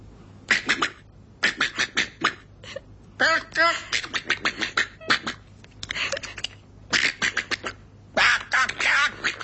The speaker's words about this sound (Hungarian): Szeretnéd hallani, hogy hápog a kacsa?